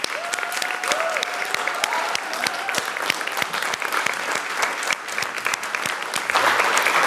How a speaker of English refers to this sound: Please join me in a round of applause for Claudia.